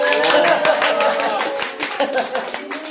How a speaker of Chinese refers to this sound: 是哇，俾啲掌声佢啱。